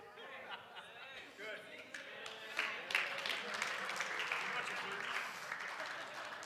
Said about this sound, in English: The youth are clapping, going, what a great pastor.